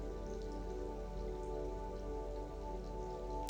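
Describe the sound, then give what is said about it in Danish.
Soft, steady gentle rain patters continuously on a surface on a warm summer day, a gentle even hiss of drops with no pauses, heard alone, with a faint low hum underneath. “Forestil dig, at du rammes af den blideste regn.”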